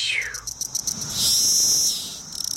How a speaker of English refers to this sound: And so Magiscicada cassini is the one that's black underneath. And it's one that has a series of ticks and they get faster and faster. And in the end, there's kind of a little scream at the end. It goes like tick, tick, tick, tick, tick.